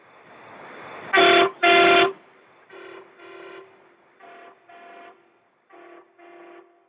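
truck horn honking

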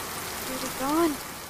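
rain falling

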